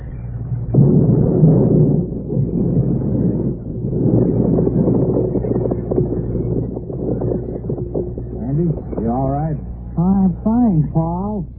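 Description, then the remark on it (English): A small atom bomb explodes in a jungle hut: a deep, loud rumbling roar that rolls on for about eight seconds, then fades as a voice lets out several wavering, rising-and-falling groans. “Then the infamous doctor and his henchmen deposited the trunk in a jungle hut and set off a small but efficient atom bomb.”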